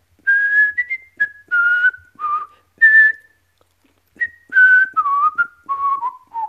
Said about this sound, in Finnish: Nyt tämmöinen demonstraatio sitten, että mulla on nyt tässä kädessä syötävää ja minä vähän vihellän.